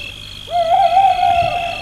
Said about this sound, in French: La nuit est calme, l'on entend le bruit des oiseaux de nuit, c'est la pleine lune.